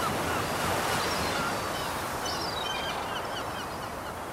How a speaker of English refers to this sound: The wind. The wind blows. The wind blows the trees and the leaves. And the birds and the sea.